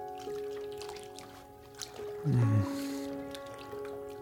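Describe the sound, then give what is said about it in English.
Quiet running water trickles from a faucet, a thin steady flow with a brief fuller gurgle midway, set against a low background hum. “Try out different positions, different water pressures, different temperatures.”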